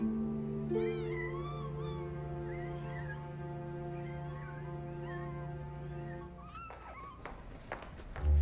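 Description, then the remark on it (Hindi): Several cats meow repeatedly in overlapping, wavering cries over a steady low hum, with a few thumps and shuffling sounds near the end. “बिल्लियाँ आ गई, मैं जाकर उनके लिए दूध लाऊं।”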